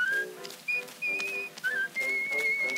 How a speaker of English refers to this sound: Yes, just like this. Girls taking a chance when she whistles like this. Her mouth puckered up as if asking a kiss.